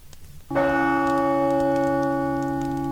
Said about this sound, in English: Maeve had said she would have her bondsmen beat in a mighty battle gong, which was said to bring great luck to all who fought in her favour. But to Ferda, it made a deadening, lonely sound as he made his dark way down to the fort to do battle